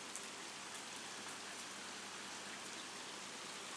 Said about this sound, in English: It's pissing down. There's always somebody who lowers the tone. It's absolutely pouring. I'm standing undercover in my nightie. I'm sure you all wanted to know that. And I'm listening to the rain. It's a nice sound.